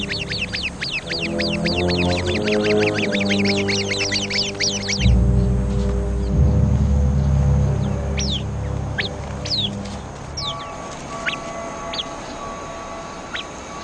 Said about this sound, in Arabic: تظهر حية شرسة، يصدر العصفور المناوب الإنذار فورا.